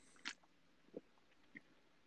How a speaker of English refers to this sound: We got the gulp in there.